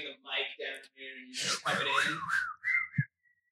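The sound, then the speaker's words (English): A person whistles a short, bouncy melody, with the tune sliding between notes. Voices and breathy laughter overlap it, and the whistle trails off after a few seconds. “It's so catchy. You gotta do it. No, I do can. It. Whistle it.”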